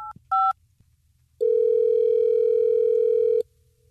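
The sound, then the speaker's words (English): An outgoing call placed by the radio station Hot 101.5 in Tampa Bay ringing on a phone line: a couple of quick electronic beeps, then one steady two-second ringback tone, clear, with no one talking. “Well, let's try to get her on the phone.”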